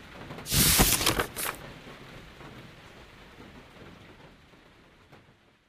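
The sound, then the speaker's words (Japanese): Rain falls in a forest: a burst of heavy, hissing downpour swells for a second or so, then settles into a steady, softer patter of rain that slowly fades. No voices are present. “森の雨音。”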